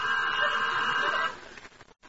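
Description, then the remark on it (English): A telephone rings once, a bright, steady, buzzing tone that holds for just over a second and then cuts off abruptly, leaving only faint background noise. “Oh, there's the telephone.”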